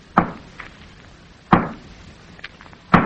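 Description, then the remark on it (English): A hammer raps on a wall three times, slow, sharp and evenly spaced, with a couple of faint lighter taps in between and no voices. “Oh, that's what I'll rap on the wall with.”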